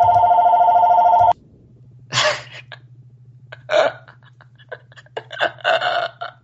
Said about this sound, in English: I told that you that phone was gonna be loud as fuck if it rang. It scared the shit out of me.